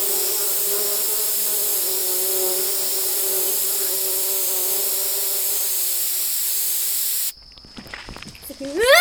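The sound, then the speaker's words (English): A bee buzzes steadily for about seven seconds, its drone wavering slightly, then cuts off abruptly and gives way to brief scattered sounds. “Is that a bee? Hate bees!”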